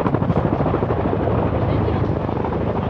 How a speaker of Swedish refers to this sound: Helikoptern med Ulla och de två andra från livbåten åker till Huddinge sjukhus